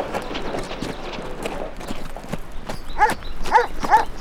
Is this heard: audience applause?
no